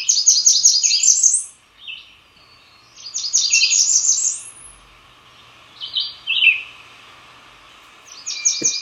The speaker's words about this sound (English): All right, so you sent us sound for the Black Burnian warbler. Let's hear that.